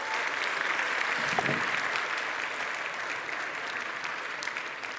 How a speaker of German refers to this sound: Ich habe mitgebracht, wir hatten da drüben noch so ein bisschen Kamera, deswegen herzlich einen Applaus für die mobile Kamera.